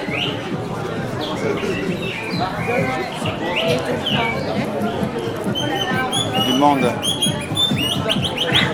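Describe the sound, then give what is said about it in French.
Warbling, bird-like trills from a nightingale whistle toy, blown by a man selling them, ring out repeatedly over a busy street crowd on Rue des Carmes, with several people talking throughout. “Le mec qui vend son sifflet rossignol à 3 euros.”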